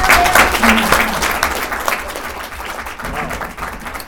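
An audience applauds with steady, dense clapping, loudest at the start and gradually tapering off over a few seconds, with faint voices mixed in.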